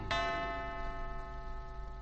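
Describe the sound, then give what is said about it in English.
A single resonant clock chime strikes once at two o'clock, its bright ringing tone lingering and slowly fading over the next couple of seconds, with no one talking. “2 o'clock.”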